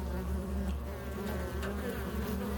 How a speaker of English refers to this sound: Until a few days later, when the family noticed that a swarm of black flies had congregated on the screen of their front door. It was almost winter, definitely not fly season.